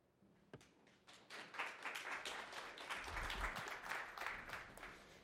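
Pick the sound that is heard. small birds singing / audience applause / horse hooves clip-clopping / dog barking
audience applause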